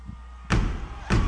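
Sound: audience stomping their feet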